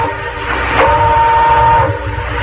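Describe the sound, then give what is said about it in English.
A train horn sounds one sustained, steady blast for about a second over the constant low rumble of railroad cars, with no voices present, at a store's receiving platform where three railroad cars full of Frigidaire appliances are being unloaded. “Friends, we're here at the receiving platform of Burnham's, where they're unloading 3 railroad cars full of Frigidaire appliances”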